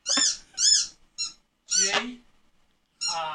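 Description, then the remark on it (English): A chicken squawks in a series of short, harsh, high-pitched calls with brief pauses between them, loud and alone with no talking. “To house chicken, as you can hear.”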